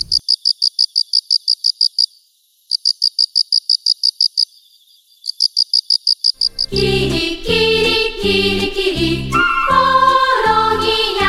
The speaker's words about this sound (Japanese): 次はハラオカメコオロギです。